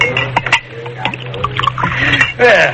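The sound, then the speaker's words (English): Whiskey is poured from a bottle into a glass, with a few light clinks of glass and a brief rising gurgle as it fills, over a low steady hum. “Do you mind if I pour myself one?”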